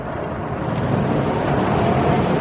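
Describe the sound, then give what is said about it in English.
A car speeds along, its speed climbing past 90, 100 and 105 toward 120, with a steady, dense engine and road roar that swells slightly louder as it goes. No one speaks. “you're going over 90. 100, Doris. 105.”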